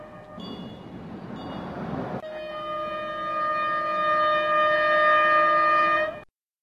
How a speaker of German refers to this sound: Da kommt auch endlich der Zug. Aber nicht einmal die Tatsache, dass es sich nach diesem ganzen Aufwand nur um eine einsame Diesellok handelt, kann mich jetzt wirklich ärgern.